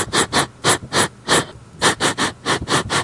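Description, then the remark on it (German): Quick, rhythmic sniffing as Jolly sniffs in all directions in dense fog, trying to pick up a trail: about a dozen short, airy snuffs in two runs split by a brief pause, fairly loud with no voices. “Jolly schnuppert in alle Richtungen.”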